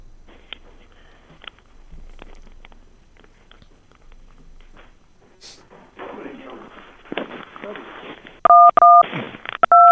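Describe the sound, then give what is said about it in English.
Telephone touch tones being dialed: two loud, steady dual-pitched beeps near the end, following muffled talk and a stretch of rustling, scratchy noise. “I heard touch tones.”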